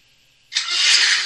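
After a faint hiss, a loud, harsh scream bursts in and holds steady to the end, so rough and noisy it almost sounds like a revving engine.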